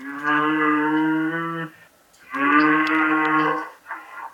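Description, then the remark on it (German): A cow moos twice, loud and close, each call a long drawn-out low bellow with a short pause between, followed by a brief softer grunt at the end. No one speaks. “Liebe Kuh, warum bin ich so hässlich?”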